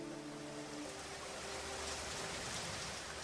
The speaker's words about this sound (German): Prachinburi, östlich von Bangkok. Seit Tagen regnet es heftig und nun ist alles überflutet.